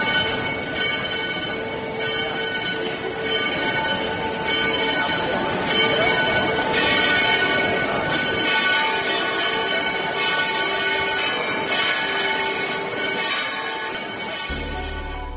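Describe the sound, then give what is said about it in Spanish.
A cathedral tower's church bells peal continuously, many overlapping strikes blending into a dense, resonant clamor that stays loud and steady throughout, with no one speaking. “Así que podemos decir que la torre de campanas de la catedral está con nosotros de milagro y hay que celebrarlo echando, sí, las campanas.”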